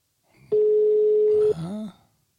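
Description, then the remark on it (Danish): A single steady, mid-pitched ringback tone of an outgoing phone call sounds loudly for about a second, then a brief voice follows as the call seems to be answered. “Jeg ringer lige.”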